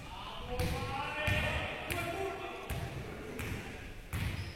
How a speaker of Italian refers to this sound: C'è gente che sbraita in sottofondo.